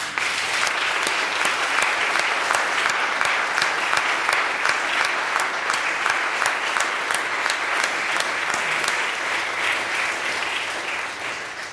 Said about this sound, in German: Wir klatschen noch mal für Sie.